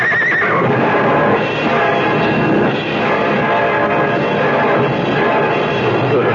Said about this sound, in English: The 2 runaway horses. The horses are hurt.